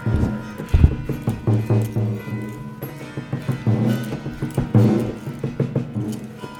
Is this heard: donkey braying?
yes